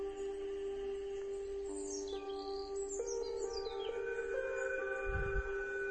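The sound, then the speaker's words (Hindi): Birds chirp and twitter by a riverbank with quick, high sweeping calls over a steady, humming tonal background, moderately loud and continuous, with a brief low rumble near the end. “चिड़िया चहचहा रही है।”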